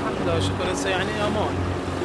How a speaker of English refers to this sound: As the party boat thrums along, smaller vessels buzz alongside. They're river taxis on weekdays, but this is the weekend, and some students have crammed in for a joyride.